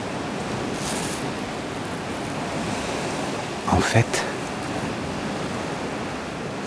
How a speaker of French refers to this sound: le ressac des vagues varie selon l'exposition des récifs, la vitesse du vent. Je suis tout proche du remous des vagues.